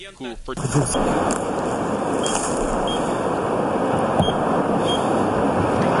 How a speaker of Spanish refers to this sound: Solitario paraje con la central nuclear de Fukushima al fondo, por debajo los pitidos de un sensor de radioactividad. Ya ha pasado un año del desastre nuclear en Japón.